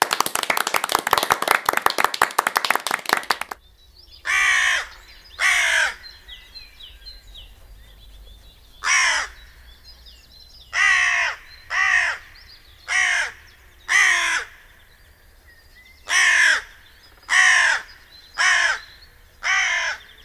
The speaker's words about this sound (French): Avez-vous reconnu la corneille ?